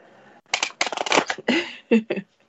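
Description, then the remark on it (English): A deck of cards is shuffled: a quick, crisp riffle of rapid flicking, then a few separate swishes and taps as the cards are squared up. No one speaks. “My shuffling is a little wonky, but we're good.”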